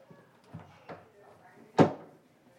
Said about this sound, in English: All right, we're going to go ahead and close the doors.